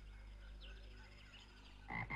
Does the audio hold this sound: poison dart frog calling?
yes